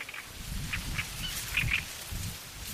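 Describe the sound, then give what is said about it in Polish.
A great reed warbler, hidden in shoreline reeds along the Warta river where it also builds its nest, sings a harsh, croaking run of short, repeated rasping notes, heard over a steady low rumble with no one speaking. “Trzciniak, czyli ptak, który chowa się w trzcinach tutaj przybrzegowych.”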